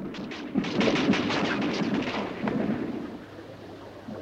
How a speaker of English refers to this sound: Gunfire peppers the water around them, and they both dive.